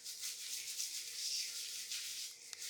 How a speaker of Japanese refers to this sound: 今ボディーソープを毛につけてます。